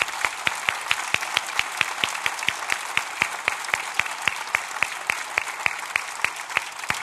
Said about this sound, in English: Oh, if we're going to give her a round of applause, we need to give her a round of applause.